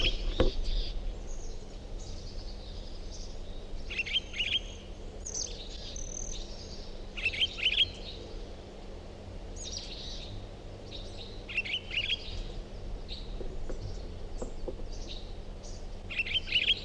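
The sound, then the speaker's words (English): A recording of bird song plays, with repeated bright, high chirps and short trilled phrases arriving in clusters every couple of seconds over a steady low hum, with no talking. “Is that recording same bird?”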